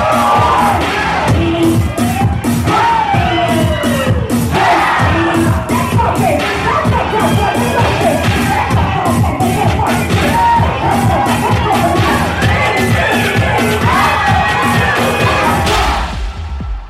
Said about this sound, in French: parce que les différentes house crient, ça crie dans tous les sens, il y a de la musique. Enfin, c'est très intense. C'est intense. Des fois, toute la salle crie, donc c'est très, très particulier. Et puis, t'as le MC en plus qui anime tout ça.